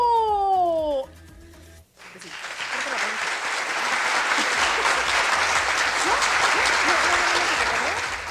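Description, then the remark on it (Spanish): A short whistling, descending tonal sweep gives way after a brief pause to a loud, steady applause sound effect played from a studio console, a dense crowd clapping that holds for about six seconds before easing slightly. “Yo quería aplausos. Pues, sí lo puse, pero no sé por qué no se escucharon allá, pero aquí en la consola sí.”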